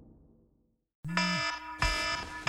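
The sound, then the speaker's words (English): After a second of near silence, a loud phone alarm goes off in the morning, sounding in repeated bright, tonal bursts with a shrill electronic ring. “I snap awake in the morning with my phone alarm going off.”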